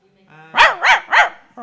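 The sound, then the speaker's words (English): A person does a dog-bark impression: three loud, evenly spaced woofs in quick succession, after a brief low vocal lead-in and followed by a short trailing voice. “I liked your bark this morning.”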